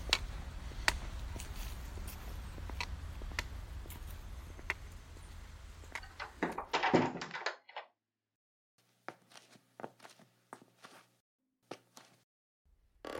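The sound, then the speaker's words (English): Steady outdoor ambience and scattered knocks end in a loud rattling burst as a house door swings shut behind someone coming inside, cutting the noise off abruptly; a few soft indoor taps and footsteps follow in near silence. “Quickly, come inside and then close the door behind me.”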